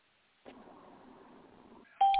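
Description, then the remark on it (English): A short, loud electronic tone sounds abruptly at the very end, the kind of chime a conference call plays when a caller rejoins, following a stretch of muffled line noise. “That yeah, that's the sound it makes, you know, when someone he comes back on.”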